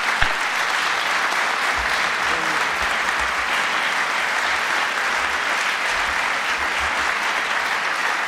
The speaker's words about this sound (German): An Ihrem Beifall spüre ich, dass Sie dieses wunderbare Hocharabisch alle gut verstanden haben.